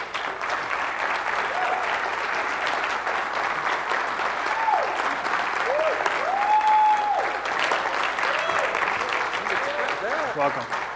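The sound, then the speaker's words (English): An audience at a church claps steadily and loudly for about eleven seconds to welcome a man who is to be baptized, a dense wash of applause with a few rising whoops and voices calling out over it. “you didn't expect to be for people to clap?”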